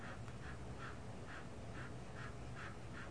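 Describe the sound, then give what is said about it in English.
A sleeping female dog whimpers softly while dreaming, giving a steady run of about seven short, faint nasal whines, evenly spaced over a low background hum. “They say you can really mess up a dog by waking them up when they're dreaming.”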